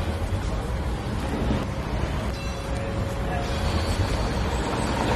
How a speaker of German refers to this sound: Der lange Riegel vor uns ist eingerüstet und wird saniert. Man hört darum während allen Aufnahmen von dieser Episode, hier wird geschafft, mit grossen Geräten und mit viel zusätzlichem Verkehr.